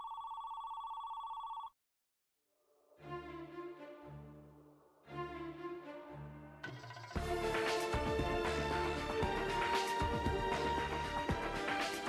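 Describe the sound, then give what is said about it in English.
A woman's phone rings with a steady electronic tone for under two seconds, then cuts off; after a brief silence, music swells in and grows louder and fuller. “Then, her phone rings.”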